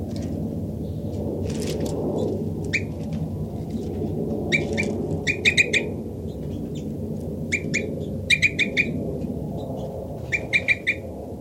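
Bursts of short, high chirping bird calls come in quick clusters of three or four notes, repeating several times over a steady low rumbling background.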